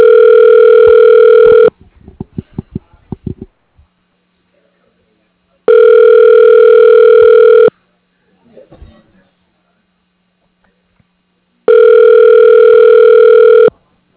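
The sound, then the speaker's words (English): Telephone ringback tone heard over the line while a call is connected to an office extension through a company directory: three steady, loud two-second rings spaced evenly with quiet pauses, and a few faint clicks and rustles in the gaps between rings. “Please hold while we try to connect you to extension 125.”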